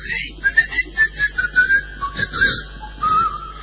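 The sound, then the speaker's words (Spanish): Someone whistles a short melodic tune, a quick run of clear rising and falling notes lasting a few seconds, with no talking. “…, silba por ahí.”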